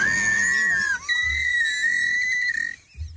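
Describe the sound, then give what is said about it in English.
A man imitates a horse whinny with a high, wavering squeal. It holds steady, breaks briefly after about a second, then carries on for another second and a half before cutting off. “Is that the sound of a horse that he just made?”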